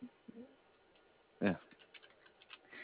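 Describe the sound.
Faint, irregular clicking of keys on a computer keyboard, with one louder thump partway through followed by scattered light taps, over a quiet background with a brief murmur of voice at the start.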